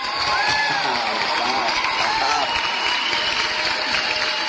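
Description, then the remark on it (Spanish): Sustained audience applause, a dense, steady wash of clapping at an even loudness for several seconds, with faint voices and a few cheers mixed into the crowd noise. “y ahí van unos aplausos.”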